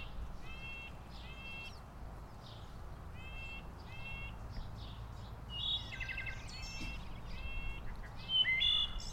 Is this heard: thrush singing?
yes